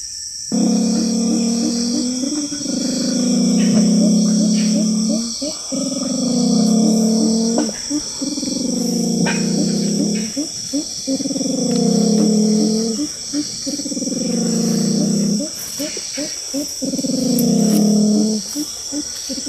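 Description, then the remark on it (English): Call of a black, silky-looking, hen-like Amazon forest bird with a big body, skinny legs, big feet and a big white rump patch, recorded in the Amazon: deep, throaty, rising-and-falling phrases repeated about six times in a steady rhythm, over a constant high hiss of insects. “Imagine a black, silky-looking hen-like bird. Big body, skinny legs, big feet for scrounging around in the undergrowth, and a big white patch on its bum.”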